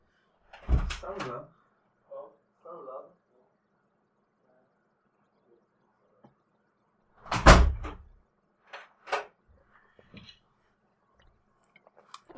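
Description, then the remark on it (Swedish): Door sounds as a neighbour knocks and the door is opened: a heavy thump, a few soft clunks, then a second loud bang, followed by quieter clicks and rattles. “Jag har en av mina grannar att knacka på.”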